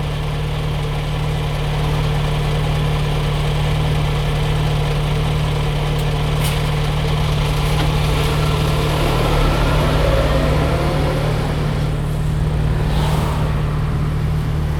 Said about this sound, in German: So, das letzte Geräusch ist ein LKW, der neben mir an der Ampel steht. Ich hoffe, ihr versteht trotzdem genug von dem, was ich sage.